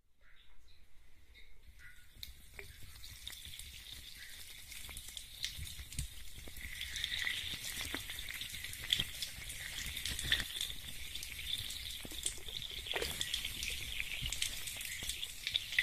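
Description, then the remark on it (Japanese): Carbonated foam fizzes on a scalp during a scalp massage with carbonated water, a dense crackling hiss that swells up after a quiet start and then holds steady, peppered with tiny sharp pops, with no voices. “炭酸フォームで汚れを取って、炭酸水でさらに汚れを取りつつも血行促進です。”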